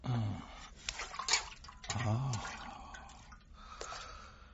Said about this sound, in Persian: پاهایتان را بگذارید درون آب گرم.